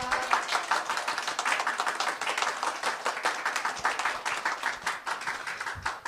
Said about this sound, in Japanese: それでは神様に感謝の拍手を送りましょう。感謝します。